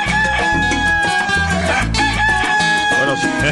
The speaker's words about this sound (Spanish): Son las 5 de la mañana y un minuto en nuestros relojes. Al cantillo de los gallos, no es del gallo, sino de los gallos.